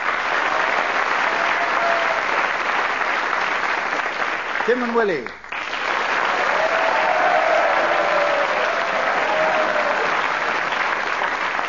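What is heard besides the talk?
audience applause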